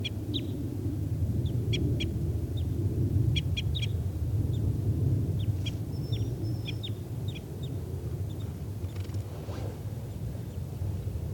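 wild bird

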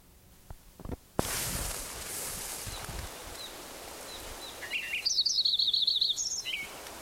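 lincoln's sparrow song

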